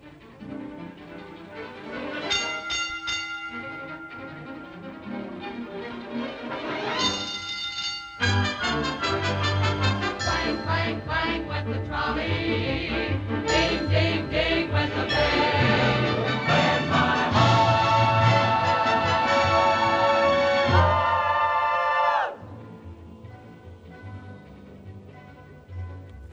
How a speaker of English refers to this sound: So here's … with ….